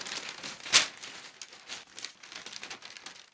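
A piece of paper is folded, crinkling and rustling in a steady run of small crackles, with one sharp, louder crunch early on, then softer handling noises fading out. Fairly quiet, with no voices.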